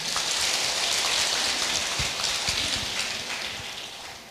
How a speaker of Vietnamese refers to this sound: phần lớn là các bạn thanh niên hưởng ứng lời kêu gọi của Quỹ Đạo Phật Ngày Nay và Đạo Tràng Đạo Phật Ngày Nay Hà Nội đến với chương trình đăng ký hiến mô tạng tập thể và hiến xác cho nghiên cứu y học, cho một tràng vỗ tay thật lớn.